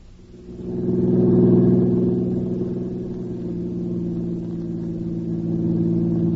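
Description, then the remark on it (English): A car engine runs steadily as the vehicle drives along, a low droning hum with a slight swell early on, then holding at an even, moderately loud level with no voices. “Yeah, I'm sure tired to do nothing but driving around in this car.”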